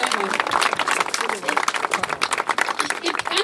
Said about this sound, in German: Das ist unglaublich wichtig. Vielen Dank dafür. Ganz wichtig, der Danke von euch und der Applaus.